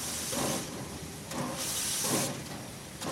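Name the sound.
steam train hissing steam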